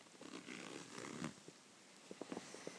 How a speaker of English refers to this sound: What's against your skin? What's against your skin? Is there a zip that needs be undone?